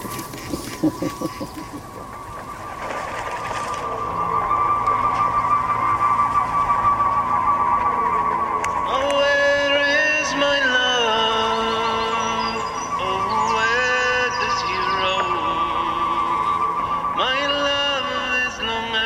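Pigeons in flight, their beating wings turning a steady whistling tone into a rapid wavering pulse. Several overlapping pitched tones swell and shift throughout, continuous and fairly loud, with no voices.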